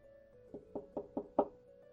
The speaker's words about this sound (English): So Brigand is not going to be the one that knocks on the door. It's going to be Killa, which is the more level-headed of the duo. So it would be kind of like a fairly light knock, but deliberate.